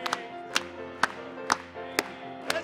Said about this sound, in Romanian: Hai să o aplaudăm încă o dată!